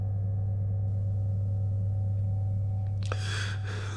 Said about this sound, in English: Humming measured at 45 pulses a minute.